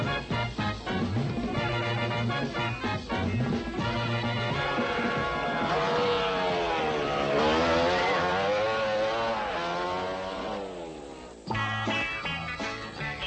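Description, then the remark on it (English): Loud motorcycle engines roar and rev continuously, with rising and falling pitch as several riders in the Elsinore motorcycle race ride through town, one sweeping past with a Doppler drop before another accelerates in. “With the rest of the riders thundering through town, it was sport for the spectators to see if they could get across the street before they got run over by a motorcycle.”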